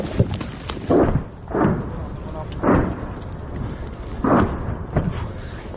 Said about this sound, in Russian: Обстрел град.